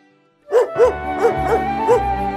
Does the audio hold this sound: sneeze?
no